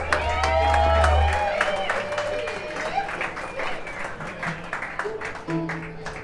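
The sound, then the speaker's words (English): An audience in Saratoga Springs, New York breaks into steady, dense applause for a band, mixed with cheering and high whoops, loudest at the start and thinning slightly toward the end, with a low hum briefly underneath. “Ladies and gentlemen, let's give a big round of applause for ….”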